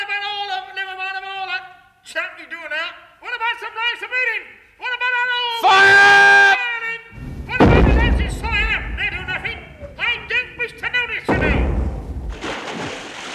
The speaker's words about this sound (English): He's falling in the water.